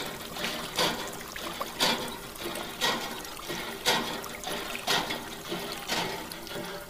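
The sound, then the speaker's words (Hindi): Water trickles from a tap in a village in Mahoba district in a continuous hiss, swelling into brief gushes roughly once per second. The water runs for a while and then stops because water is scarce. The flow stays fairly soft and no one speaks. “देर निकल रहा पानी, एक ही बात फिर खत्म हो जाता।”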